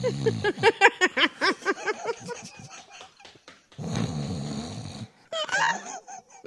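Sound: person imitating snoring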